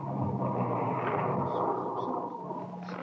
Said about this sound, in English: We waited. Nothing happened. At 5:05, it started to thunder. That's all we need now. Thunderstorm.